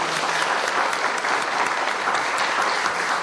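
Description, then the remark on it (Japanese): A crowd claps steadily, a dense, even wash of many hands applauding without pause, fairly loud throughout and no voices standing out. “それでは皆さん、盛大な拍手を持って帰ってください。”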